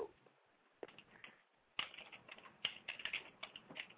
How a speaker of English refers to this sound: Who's typing? Who's typing right now?